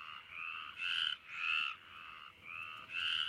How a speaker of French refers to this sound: Les chants des rainettes. Rauques étaient les voix des rainettes le soir, là où l'eau du bassin coulant sans bruit brillait dans l'herbe.